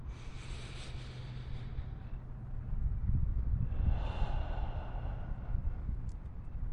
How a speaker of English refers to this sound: With that in mind, let's go ahead and take a few deep breaths in through the nose, breathing us deep down into the abdomen and then even lower regions if you're able to breathe that deep.